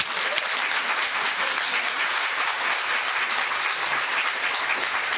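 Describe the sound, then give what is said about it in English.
An audience at the Tattered Cover bookstore claps steadily and warmly to welcome author Jennifer Cheverini, a dense, continuous patter of many hands at an even loudness for several seconds, with no voices heard over it. “Please join me in giving a warm Tattered Cover welcome to Jennifer Cheverini.”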